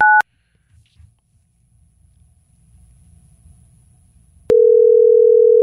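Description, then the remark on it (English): A phone call being placed: a short two-tone electronic beep, a few seconds of faint low rumble, then a loud, steady ringing tone that continues to the end. No one speaks. “I called her on my phone.”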